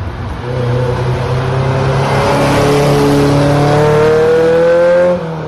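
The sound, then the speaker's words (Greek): The engine of a 1984 Ferrari Mondial Cabriolet revs loudly and steadily for about five seconds, its pitch climbing in smooth rising harmonics before cutting off abruptly, with no voices over it. “Mondial Cabriolet το 1984.”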